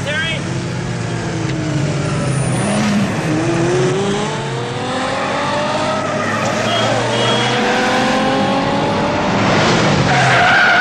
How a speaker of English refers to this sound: You should check out this scene. It's like they're just flying through traffic.